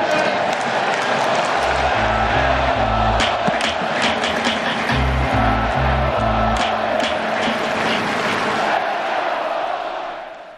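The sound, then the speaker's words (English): A huge baseball stadium crowd in Oakland roars and chants 'Let's go, Oakland!' in unison, with loud rhythmic pounding beats in two bursts driving the chant. The din stays loud throughout before easing slightly at the end. “And I ask you for one more time to start the greatest cheer in baseball.”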